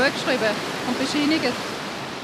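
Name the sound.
rushing water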